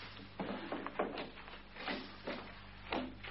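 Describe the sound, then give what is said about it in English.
A desk drawer is pulled open, followed by a series of short scraping, rattling bursts as things inside are shuffled, over a steady low hum. No one speaks. “Oh, in a drawer in my desk over there.”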